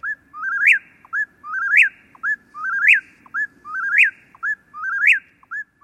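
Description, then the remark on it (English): An eastern whippoorwill, recorded in Massachusetts, sings alone, repeating its clear, whistled three-part phrase about once a second, about seven times in a steady rhythm, loud over a faint low rumble. Each trill contains five separate notes, of which human ears pick up three. “Here's the eastern whippoorwill, recorded in Massachusetts.”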